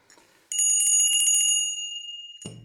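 A bright bell rings once with a rapid trill, its metallic tone ringing out and slowly fading, followed by a short low thump at the end.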